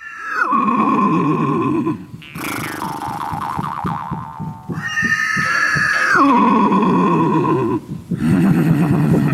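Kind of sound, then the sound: animal, horse neighing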